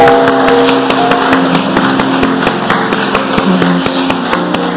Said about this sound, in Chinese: 我们向我们的主来拍手，好感谢。